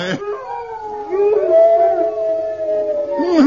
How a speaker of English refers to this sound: Hey, did you hear that? There's a whole pack of them. There's a whole pack of horrible hounds.